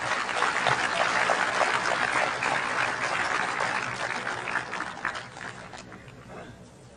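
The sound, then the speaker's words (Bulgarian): A crowd applauds with steady, dense clapping that holds loud for about five seconds, then thins out and fades away, with no one speaking over it. The applause is for Mr. Karakachanov, chairman of VMRO, invited to speak on the political situation in Bulgaria. “Вашите аплодисменти за господин Каракачанов.”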